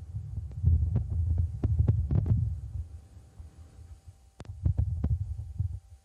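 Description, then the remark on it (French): A wind gust on the surface of Mars, about 10 seconds long, picked up by a rover microphone and sent back to Earth: low, muffled rumbling that swells and fades in soft surges over a faint steady hum, with a few brief clicks and no voices. “Oui, ce que vous venez d'entendre pendant 10 secondes est bien une bourrasque de vent sur la surface de Mars, capturée par le micro et renvoyée sur Terre pour l'heure.”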